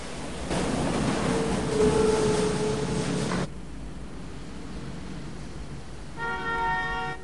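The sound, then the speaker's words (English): A tram pulling into a station rumbles loudly with a faint squeal of brakes, then the noise drops to a quiet hum before a short, bright electronic chime sounds near the end. “The tram pulls in at a station.”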